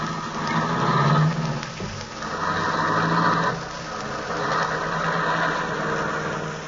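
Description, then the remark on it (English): A car engine runs steadily with a low, rumbling hum that swells slightly and settles, fairly loud, with no voices over it. “Yeah, it's a nice car.”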